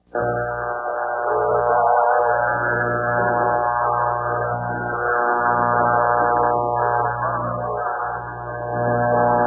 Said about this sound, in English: It's just a failure of the transmitter, resulting in the exciter putting out not a single carrier but a whole bunch of 120 Hz steps, which are visible on the waterfall. Listen to the transmission yielding this buzzing sound.